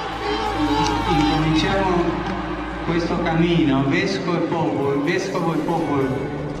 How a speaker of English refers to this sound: And the crowd was ecstatic.